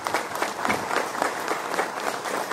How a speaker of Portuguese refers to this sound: Salvo de palmas aqui